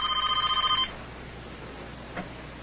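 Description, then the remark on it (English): A telephone bell rings in one short, rapid trilling burst that cuts off after under a second, leaving quiet room tone broken only by a faint click. “Jack goes to his phone.”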